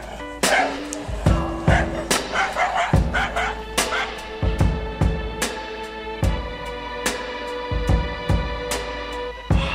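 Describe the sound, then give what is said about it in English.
A dog barks loudly and repeatedly in a rapid, insistent run of sharp barks that fills the whole stretch with only brief pauses between them. “this would not only protect consumers from buying a dog that can't do its job, but it would likely stop pet owners from trying to bring this guy on the plane with them.”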